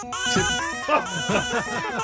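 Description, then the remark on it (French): A baby's babbles and squeals, chopped and pitched by the baby's father into a quick melodic riff recreating a rock song from 21 baby notes, with a sneeze used as drums, over steady, buzzing backing tones, loud and continuous for a couple of seconds. “Et il a attendu que son bébé fasse les 21 notes nécessaires, un hatchoum à la batterie, et hop, ça a donné ça.”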